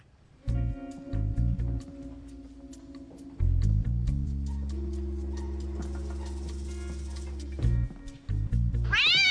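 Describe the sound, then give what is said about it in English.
A cat yowls loudly, a few short choppy meows building into a long, drawn-out caterwaul, then more clipped cries and a sharp rising squeal at the end. No one speaks. “Jesus, how many cats do they have?”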